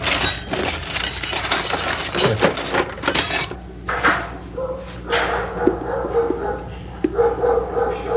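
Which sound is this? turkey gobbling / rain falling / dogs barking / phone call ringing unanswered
dogs barking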